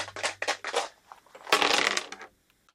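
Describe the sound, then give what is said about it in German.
Dice rattle in a cup with a few quick shakes, then spill and clatter across a hard surface before settling, with a couple of faint last ticks. Fairly loud, no voices. “Die Würfel sind gefallen und sie stehen hoffentlich für Spiel und Spaß und ja, wahrscheinlich auch mal für Ärger beim, Sie wissen schon, da wo wir lernen sollen, uns nicht zu ärgern.”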